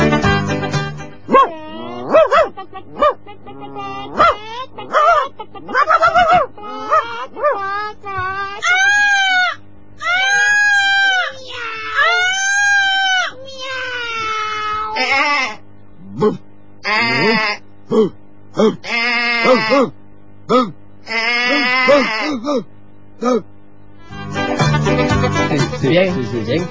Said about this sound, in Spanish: Animales de granja. Mira, tenemos... Bueno. A ver si adivinan ellos qué animales son. Politono granja. Adelante.